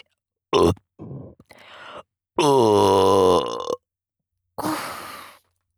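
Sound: burp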